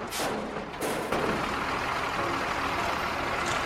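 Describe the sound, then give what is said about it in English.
A bin lorry idles with a steady, noisy engine rumble, punctuated early on by a few sharp thumps and bangs as bin bags are thrown into the back of the truck, before the droning engine carries on alone. “Maggie throws them into the back of the truck.”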